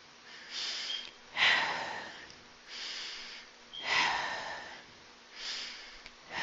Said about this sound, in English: Those are deep breaths, right? This is part of meditation as well. So focus on breathing out as slowly as possible until the lungs are completely empty.